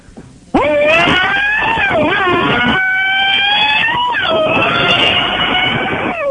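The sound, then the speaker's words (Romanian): A voice imitates a Formula 1 engine with one loud, sustained, buzzing whine that holds steady, dips and rises in pitch, then cuts off after about six seconds. “de data asta a fost pentru mult mai aproape de un motor de Formula 1.”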